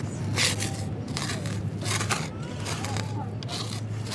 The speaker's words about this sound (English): What are you digging here? Just some weeds.